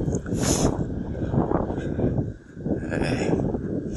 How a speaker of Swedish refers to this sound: Och om det inte låter så bra det här så är det för att det blåser rätt rejält.